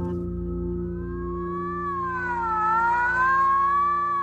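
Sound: ambulance siren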